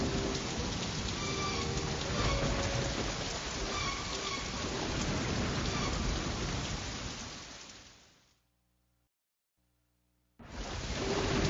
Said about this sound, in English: The rain falls, and the winds blow wildly.